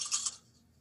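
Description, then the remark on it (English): A quick, bright rattle of dice, rolled for an investigation and intelligence check, tumbling across a hard surface, lasting about a third of a second before fading to near silence. No voices are heard. “So it's only 19 dice instead of 20?”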